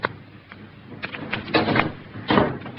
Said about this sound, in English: You may go, Kate, and close the door.